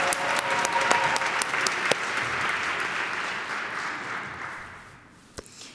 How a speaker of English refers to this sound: So if we could all give him a round of applause of congratulations, big deal.